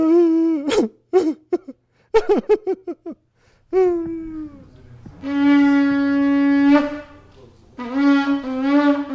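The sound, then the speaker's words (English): Shofar blasts: a burst of short, rapid, wavering notes, then a brief rising tone and a long, loud, steady blast, followed by another sustained call. No talking. “In some ways, we could think about it as a long cry followed by a beginning of a breakdown turning into very rapid sobbing, and then the long cry again.”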